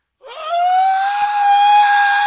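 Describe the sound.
A person imitates their mother's scream: one loud, sustained high-pitched shriek held steadily for about two seconds, with no other talking.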